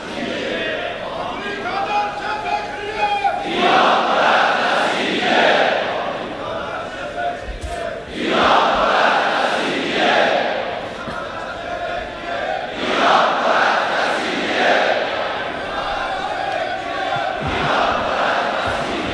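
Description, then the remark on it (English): A large crowd chants loudly in unison, repeating a slogan in rhythmic phrases that swell and pause several times, a dense roar of many voices filling the space. “Chant those slogans in due time.”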